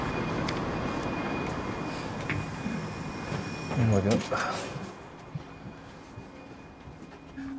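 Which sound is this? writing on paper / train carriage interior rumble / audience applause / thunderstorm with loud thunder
train carriage interior rumble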